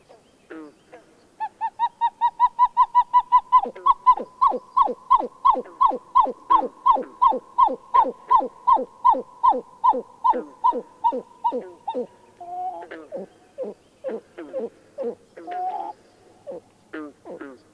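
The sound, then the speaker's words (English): A loud, rapid series of hollow, cuckoo-like notes from a pied-billed grebe, a small duck-like marsh bird that nests among cattails and rushes, repeats dozens of times, steady at first then slowing and breaking into gulping, irregular calls near the end, with no talking. “One of the most unique marsh sounds is the extraordinary cuckoo-like outburst of the pied-billed grebe, a small duck-like bird that nests among cattails and rushes.”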